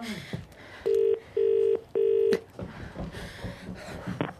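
Three short electronic beeps in quick succession from a phone keypad as someone dials a phone call. Each tone is steady and clear, followed by soft rustling and handling noise with no voices.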